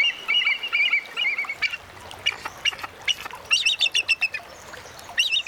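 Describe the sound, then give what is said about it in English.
A bald eagle gives high, thin chattering calls, starting with wavering piping notes and later breaking into a rapid string of staccato chirps, clear, with no one talking. “The bald eagle was declared the official emblem of the United States in 1782.”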